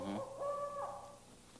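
A single drawn-out, owl-like hoot rings out clearly, a steady tonal call that swells briefly and then fades, with no talking around it.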